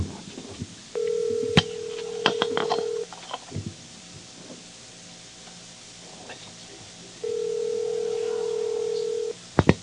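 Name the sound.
telephone dialing and ringing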